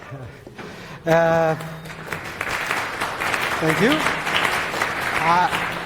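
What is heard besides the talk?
audience applause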